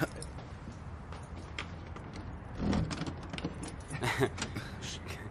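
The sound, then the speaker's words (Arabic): Keys jingle and a lock clicks open as a locked door is unlocked, with a few short metallic rattles and clunks in two bursts over a low background. “كأنه كنت قافل الباب.”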